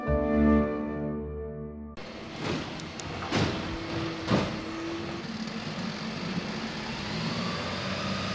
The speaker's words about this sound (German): Mit dem Müllauto.